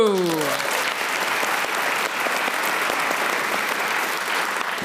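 An audience claps steadily for about five seconds, a dense, even wash of applause. A brief falling tonal sound fades out at the very start.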